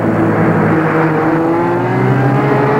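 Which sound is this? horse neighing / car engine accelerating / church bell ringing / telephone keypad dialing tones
car engine accelerating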